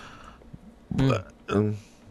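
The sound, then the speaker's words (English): Two loud, throaty burps in quick succession, made on the air during a show, each a short rumbling belch with a gravelly voiced tone, separated by a brief pause against a quiet background. “Wow, that was gross. Thanks for doing that. Right on the air. I didn't burp.”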